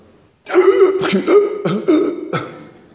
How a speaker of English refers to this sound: Trying to get the next breath. See, now, I'm sick. I shouldn't have done that because I'm going to start coughing now. You see?